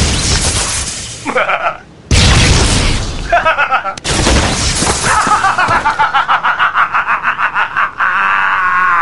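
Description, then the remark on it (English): Three loud mental explosion blasts, striking Lobo's battered body, boom in quick succession, each with a roaring tail, followed by a rapid pulsing, warbling electronic rumble that fades out. “Then blasted Lobo's battered body with several more mental explosions.”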